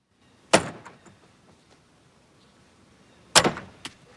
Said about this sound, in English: Giving up, he goes back to the padlocked door. He picks up a metal wheel and slams it against the padlock.